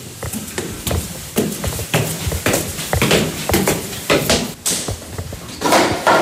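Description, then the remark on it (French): A door being closed amid a run of nearby knocks and wooden clatter, several sharp thuds spread unevenly over a few seconds with a faint rustle in between. “Ferme la porte ici, vous.”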